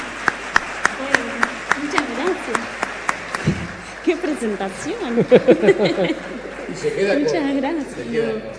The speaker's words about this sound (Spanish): Bueno, quiero recibirla con un enorme aplauso a la más grande, a la señora María Noel Richetto.